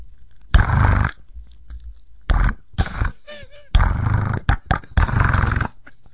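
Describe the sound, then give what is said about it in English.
A sound effect of a rotary phone being dialed: several loud, buzzy whirring bursts of the dial spinning back, separated by short pauses with faint clicks, with no one talking; the call is then answered and the receiver hung up. “And that's my sound effect of the rotary phone being dialed and answered, and then the receiver of the call hanging up.”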